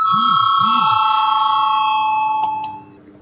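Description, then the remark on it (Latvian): A loud, sustained electric parliament voting call bell rings steadily with a bright metallic tone, rung before deputies vote on a draft resolution, then stops with a couple of clicks and fades out. “Lūdzu zvanu.”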